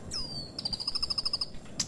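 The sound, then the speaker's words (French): A bird gives a high, thin whistled note, then a quick run of rapid repeated chirps, with a brief sharp call at the end, against a quiet background. “Le temps de croiser deux oiseaux, et le voilà déjà à dérouler l'échelle de corde.”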